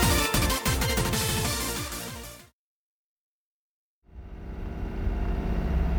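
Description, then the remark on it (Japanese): A dense, loud burst of sound cuts to a brief silence, then a steady Yokohama City Bus engine rumble with interior ambience fades in and continues evenly, with no one talking. The bus is heading to its next stop, Minatomirai. “本日も横浜シティバスをご利用いただきありがとうございます。”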